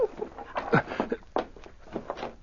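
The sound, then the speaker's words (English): A dog named King barks repeatedly in a quick, uneven series of sharp, fairly loud barks to summon help for a man pinned down under fallen timbers, with no one talking. “Bark some more.”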